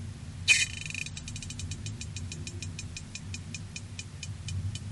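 Herring farting recorded underwater: a short hissy burst, then a long train of high, sharp ticks that gradually space out, over a constant low, murky underwater rumble.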